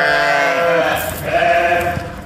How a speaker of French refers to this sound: Parce qu'on on dirait pas les humains derrière. Ah, on dirait des vrais brebis, quand même.